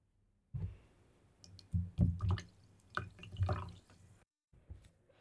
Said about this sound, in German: Hörst du, wie es plätschert? Es klingt wie ein fröhliches Lachen.